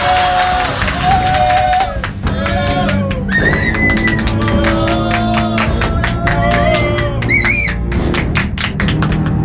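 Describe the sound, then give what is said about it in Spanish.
A crowd claps and cheers loudly and steadily to welcome an arriving guest, with dense overlapping hand claps and shrill whistles and shouts rising above the applause throughout. “Démosle un fuerte aplauso, por favor.”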